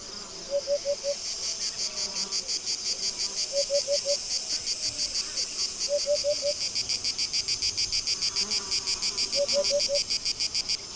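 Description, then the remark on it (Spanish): Cicadas chirr on a stiflingly hot, dry August afternoon among dry grass, a loud, steady, high-pitched pulsing drone that fills the whole scene, with short bursts of lower chirps repeating every few seconds beneath it. No one speaks. “Esta sensación de sequedad se ve subrayada por la habitual sinfonía estival que componen los sonidos de las chicharras.”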